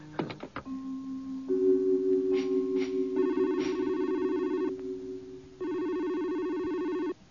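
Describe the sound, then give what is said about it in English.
A telephone rings with steady electronic tones, layered bursts of pitched ringing that pause briefly before a final loud ring, clear with no talking. “Don't answer your phone, okay? Don't even let your answering machine answer your phone.”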